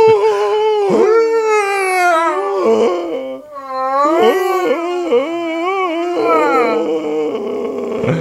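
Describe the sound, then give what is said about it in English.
A dog howls and whimpers, its loud, wavering cries rising and falling in pitch almost without a break, pausing only briefly midway through. “The dog needs an emotional support animal.”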